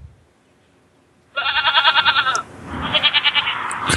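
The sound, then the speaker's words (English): A horse neighs twice in quick succession, each call a loud, shaky, warbling whinny with a pulsing tremolo, the second slightly rougher, with no talking. “He stayed up for that last little neigh.”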